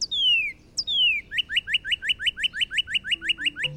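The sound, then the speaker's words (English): Northern cardinal song: two long, loud downslurred whistles followed by a rapid series of about a dozen short rising chirps, clear, with no voices. “The Northern Cardinal.”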